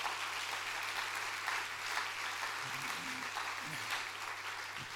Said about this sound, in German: Und ohne euch wäre das nie möglich. Und jetzt kommt der Applaus.